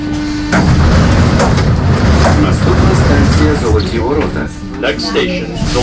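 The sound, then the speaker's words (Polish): A metro train rumbles loudly and steadily through an underground station of the Kyiv metro in Ukraine, a low droning hum running throughout, with indistinct voices and station noise mixed underneath. “ale wczoraj odwiedziłem jedną ze stacji metra kijowskiego specjalnie dla Państwa, żeby zrealizować materiał, który teraz Państwo usłyszycie.”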